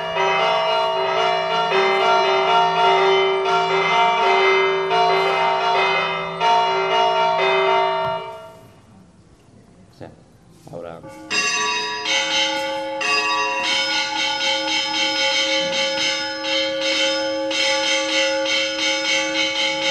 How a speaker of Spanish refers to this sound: Entonces, claro, luego llegaba en la hora de tocar las campanas a fiesta, porque era un sábado y era otra etapa, porque venía un cura. Aquí nos veis hacer otro repique.